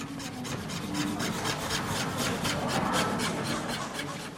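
Steady rasping saw strokes as workers in Thailand's royal workshops saw the last wooden coffin decorations for the late king, repeating in a quick, even rhythm with no voices.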